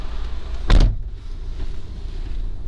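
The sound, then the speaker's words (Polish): A car door shuts once with a solid thud, a short loud burst followed by a quiet hum with no one talking. “Zamykam drzwi.”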